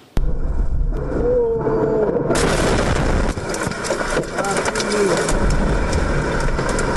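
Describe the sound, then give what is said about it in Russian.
A car's dashcam records a steady engine hum abruptly broken by a powerful explosion in Sergiev Posad on the morning of 9 August, a loud blast that gives way to a long, sustained roar and rumble lasting several seconds. “Мощнейший взрыв в Сергиевом Посаде прогремел утром 9 августа. Момент взрыва зафиксировал видеорегистратор одного из автомобилей.”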